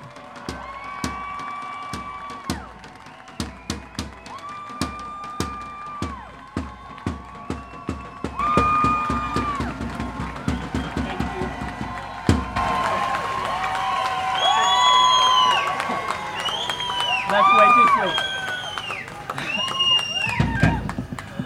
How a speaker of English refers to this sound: Please, please give a round of applause to Dr. Aziz Behimani.